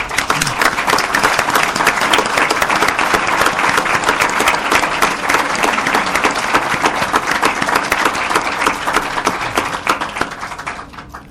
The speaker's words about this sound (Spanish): Y pediría un aplauso para el autor de esa ley.